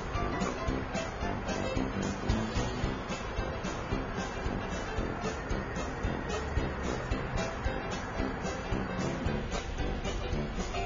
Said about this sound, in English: Paper, making new out of old. First, mix pieces of old paper with water.